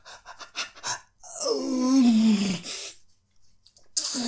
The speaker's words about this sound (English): And I want you to growl when I come. Yeah, fucking growl when I come.